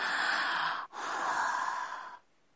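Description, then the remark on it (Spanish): Two long, harsh, moaning breaths of a creature in the jungle at night, a strained rasping inhale and exhale with a brief catch between them, then silence. No talking. “Podía escuchar la quejumbrosa respiración del ser.”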